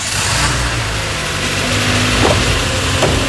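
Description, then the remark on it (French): A work car's engine, fitted with a GPS tracker, runs loud, its low rumble holding steady and then revving slightly as it pulls away, with no voices over it. “Je prends maintenant la voiture du travail.”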